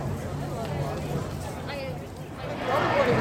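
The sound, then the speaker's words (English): A large marching crowd fills the air with a dense, steady wash of overlapping voices and chanting coming from the east, swelling louder toward the end amid a constant hubbub of movement. “This huge marching crowd, and there's chanting coming from behind me to the east now.”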